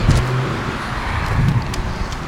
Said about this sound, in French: Ah, ça y est, une voiture s'est arrêtée, Ford.